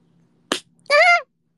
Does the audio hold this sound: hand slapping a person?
yes